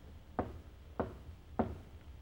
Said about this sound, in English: A man steps out and walks to a side door of one of the buildings. He knocks, pauses, then knocks again.